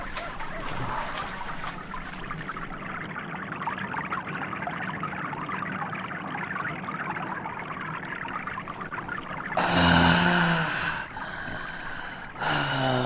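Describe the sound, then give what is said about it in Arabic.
Clear, sweet water pours and trickles steadily and continuously for about ten seconds, then gives way to a loud breathy gasp, with another shorter gasp right at the end. “يا له من ماء صافي وعذبا.”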